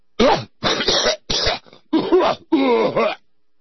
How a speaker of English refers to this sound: Bless you! Sorry about sneezing all over your kids' noses, but, see, my rights extend past their noses where infectious diseases are... Bless you!